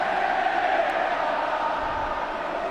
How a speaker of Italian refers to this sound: Guardate intanto, e sentiamo anche dei tifosi della Juventus, gli ultras presenti in curva.